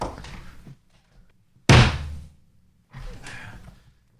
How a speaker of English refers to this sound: Hold on 1 second. Let me kill a mosquito.